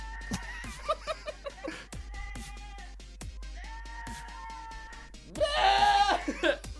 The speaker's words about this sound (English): Okay, funny goat screaming like humans. Just turn it up real fast. This is my laptop playing. Is that a goat? Those are fake, right? Nope, that's a real goat.